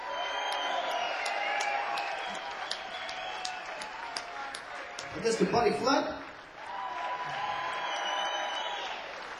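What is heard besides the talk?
audience applause and cheering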